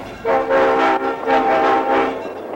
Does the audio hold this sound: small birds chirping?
no